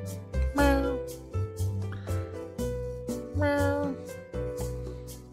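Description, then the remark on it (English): A female cat meows twice, a few seconds apart, each call a drawn-out, rising-and-falling cry over a steady, busy background of other sound. “Hey, buddy. Say hi, Sky. Sky, you want to eat?”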